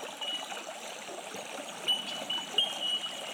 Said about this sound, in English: Allowing the transmission, the energy of this beautiful flowing creek next to me to resonate with your heart.